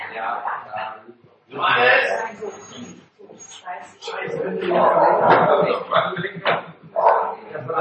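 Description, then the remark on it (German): A dog barks and yips, its calls mixed in with people talking almost continuously over it. “Der Hund wurde nicht, Entschuldigung, wenn ihr den Hund hört, der Hund, den haben wir nicht, der bellt immer noch.”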